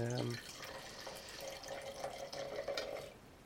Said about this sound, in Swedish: Men du, ska vi hälla upp första vinet och börja dofta lite på det så vi får lite inspiration här?